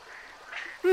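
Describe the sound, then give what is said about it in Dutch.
A red baby parrot in the Brazilian rainforest lets out one sudden, loud, harsh squawk at the very end, after a moment of soft, breathy rustling. It is brief, with no talking. “Kleine papegaai denkt dat jij zijn mama bent, Leo.”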